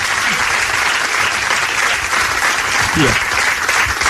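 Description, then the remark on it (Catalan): Steady, dense applause from an audience fills the whole stretch, a loud continuous wash of clapping with a brief voice or cheer briefly rising above it. “Fan aplaudiment!”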